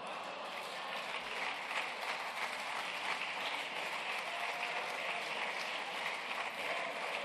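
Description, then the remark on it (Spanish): Steady, dense applause from a crowd, a continuous wash of many hands clapping at even loudness throughout, with no voices standing out above it. “Y hay alguno que aplaude porque no se entera de la película.”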